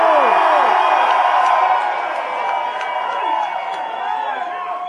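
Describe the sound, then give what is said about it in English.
A loud crowd at a freestyle show in Boulder cheers and shouts steadily, a dense wash of many voices with whoops and yells rising and falling throughout, no single speaker standing out. “If y'all want to hear me and my man do some freestyles in Boulder tonight, make some noise!”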